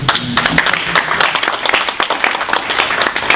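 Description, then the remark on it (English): A conference audience breaks into applause, a dense, steady crackle of many hands clapping at once, loud and sustained for a few seconds with no voices over it. “I think we have to applaud to this.”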